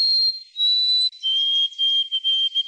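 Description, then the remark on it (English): An urban sparrow sings alone in a city gone quiet with empty streets during COVID: a clear, high whistled note held steady, then a slightly lower sustained note broken by a few brief stutters, over a faint airy hiss. “Scientists note urban sparrows are softer and their songs travel twice as far.”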